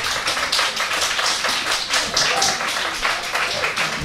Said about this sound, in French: Alors, vous pouvez l'applaudir si vous le souhaitez.